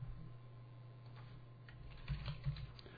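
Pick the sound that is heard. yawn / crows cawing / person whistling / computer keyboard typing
computer keyboard typing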